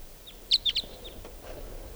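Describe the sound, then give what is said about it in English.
A wild type 2 bird, coming in to decoys and perched on the top of a tall larch tree, gives a quick run of high, sharp call notes, three louder chirps in close succession with a few fainter ones around them, over a low steady background hiss. “Here it is. Here's the wild bird.”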